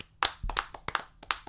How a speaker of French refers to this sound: Bravo, et on t'applaudit.